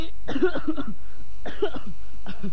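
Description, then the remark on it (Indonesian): A person standing in a marching formation coughs in three harsh, throaty bursts, the first two longer fits of several hacks each and the last a short cough, with no talking. “Baris kau pakai batuk-batuk segala.”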